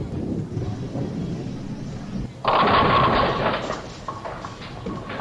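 A bowling ball rumbles down the lane for a couple of seconds, then crashes loudly into the pins, knocking over 8 and leaving 2 standing, followed by a clattering scatter that gradually fades.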